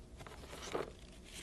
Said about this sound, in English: That's some paper we could just crumple that up for the platypus mound.